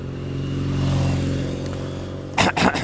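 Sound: cars driving past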